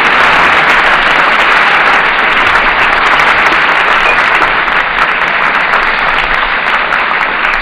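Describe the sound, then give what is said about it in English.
Loud, sustained applause from a large audience after a song by visiting baritone a singer, a dense wash of many hands clapping steadily for several seconds with no voices standing out. “Our own ears and hands join in this well-earned praise.”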